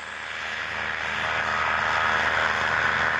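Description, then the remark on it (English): A small ultralight aircraft engine, of the kind flown to lead young whooping cranes on migration, drones steadily and continuously, a buzzing propeller hum that grows slightly louder, with no talking. “Young cranes, hatched in captivity, hear the sounds of an ultralight's engine mixed with the brood calls of adult whooping cranes.”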